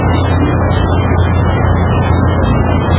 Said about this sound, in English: But it sounds like a nurturing rain, a healing rain.